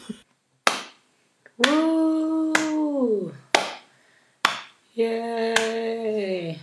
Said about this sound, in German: Jetzt möchte ich bitte einen Applaus